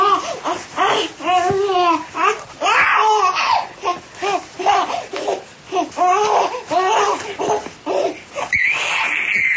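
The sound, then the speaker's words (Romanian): A baby cries and whimpers in short, repeated wavering bursts, with brief breaths between them and a higher, drawn-out wail at the end; no one speaks. “Sentimentul că o nouă viață începe să crească în tine, bucuria primei ecografii, surpriza primelor mișcări ale bebelușului din pântecul mamei, primul scâncet, sunt bucurii care fac să pălească toate neajunsurile.”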